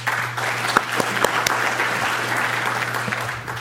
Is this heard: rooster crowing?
no